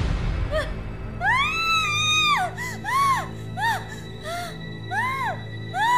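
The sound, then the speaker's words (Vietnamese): A woman screams in shock after finding a bloody human fingernail in her rice porridge: one long, piercing shriek followed by a series of shorter, sharp cries, loud, with no other voices. “có chuyện gì mà la hét dữ vậy”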